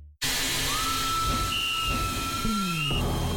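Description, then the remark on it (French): A steam locomotive at a large railway park in Switzerland hisses loudly and steadily while a high, sustained whistle sounds over it, rising in pitch and holding for a couple of seconds; no voices. “À toute vapeur, Swiss Vapor Park, le plus grand parc ferroviaire d'Europe, est ouvert tous les jours dès 10h et avec de nouveaux trains.”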